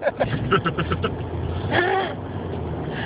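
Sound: car traffic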